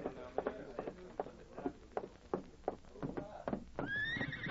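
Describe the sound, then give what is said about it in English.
A masked man's horse reins up outside: its hooves clop in a steady rhythm of sharp beats, then stop as the horse lets out a loud, high, wavering whinny at the end. “A masked man just reined up outside.”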